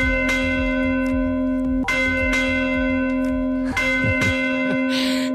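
Church bells in a village of the Baix Segre peal loudly and without pause for 45 minutes due to a fault in the system that activates them, overlapping strikes ringing out every second or two over a sustained, humming wash of resonance. No voices are heard.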